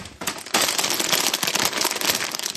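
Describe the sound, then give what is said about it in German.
A bag of chili chips crinkles and rustles in a dense, continuous crackle of sharp little pops, starting softer and turning louder after a half second, with no voices. “Man hat uns eine Tüte Chips geschickt.”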